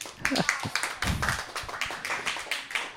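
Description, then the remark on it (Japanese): A small group of audience members claps hands in answer to a show survey, a quick, irregular patter of sharp claps lasting the full few seconds, moderately loud, with no talking over it. “バカじゃないのと思った人は拍手。”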